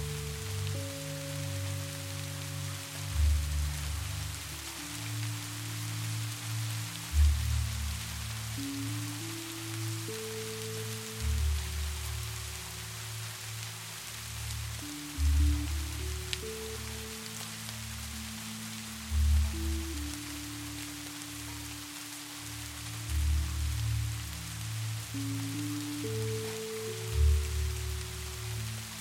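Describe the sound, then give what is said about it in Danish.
Steady rain patters continuously on a hard surface, a soft even hiss throughout, layered over slow, sustained low musical tones that shift every few seconds. No one speaks. “Det er tid til kastanjer og duften af nedfaldende blade, jord og skovbund, regnvejr og vandpytter.”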